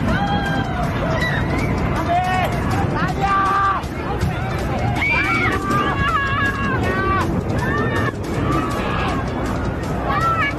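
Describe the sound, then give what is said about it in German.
A crowd of air show spectators screams and shouts in panic after a burning jet, Pony 10, explodes in the air and its fireball strikes the audience; many high, wavering voices overlap in a dense, continuous uproar that stays loud throughout. “Sie explodiert noch in der Luft und der Feuerball trifft mitten in das Publikum.”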